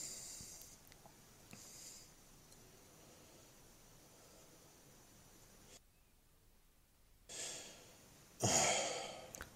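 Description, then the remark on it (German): Heavy, huffing breaths from a man: a faint puff early on, then two loud, rough exhalations near the end, the last one the strongest, with no talking. “Da muss er erst mal schnaufen.”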